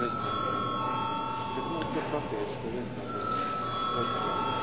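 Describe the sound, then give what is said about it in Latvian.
An electric bell in the Latvian Saeima (parliament) rings continuously for several seconds to call deputies' attendance registration at the end of the 11th Saeima's first sitting, a steady high-pitched metallic tone, with a low murmur of voices and background noise underneath. “Tātad lūdzu zvanu.”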